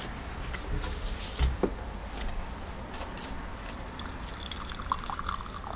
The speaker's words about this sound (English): Pour some tea for you. Oh yeah, great.